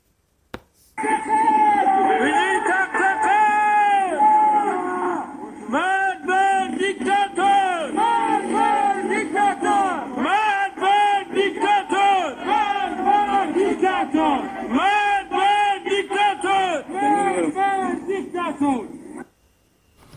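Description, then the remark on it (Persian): A large crowd of protesters in Sanandaj, who have blocked a street and lit fires on a Monday evening, chants slogans against government officials in loud, rhythmic unison, voices rising and falling in repeated phrases for nearly twenty seconds without pause. “همچنین بنابر تصاویر دیگری، شماری از معترضان در سنندج شامگاه دوشنبه با بستن خیابان و روشن کردن آتش شعارهای علیه مقامات حکومتی سر دادند.”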